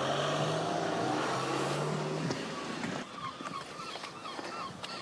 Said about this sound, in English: Well, peace and quiet apart from seagulls, as you can hear in the background. Seagulls are very noisy in Whitby.